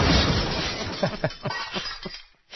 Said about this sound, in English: Oh, there was some glass in that. Sorry. Oh, wow. Yeah. We apologize. And hammers. Oops. I tried to just make it grass clippings. He fell into a box of glass and hammers.